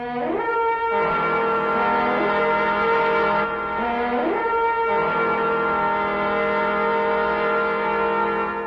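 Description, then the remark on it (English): Several trumpets, blown by seven priests marching around Jericho, blare together in long, loud, sustained notes, with a few upward swooping glides between blasts, no voices. “And at the 7th time, the priests blew their trumpets.”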